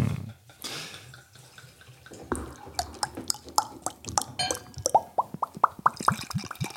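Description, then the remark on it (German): Brewdog Punk IPA Postmodern Classic beer glugs out of a bottle into a glass in a quick run of gurgling plops that climb in pitch as it pours, with a fizzy foaming hiss underneath and no talking. “Es schäumt auch so schön im Glas.”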